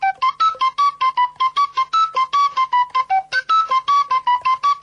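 A shepherd's fipple flute plays a quick, lively tune of short, detached notes in a steady rhythm, bright, with no voices.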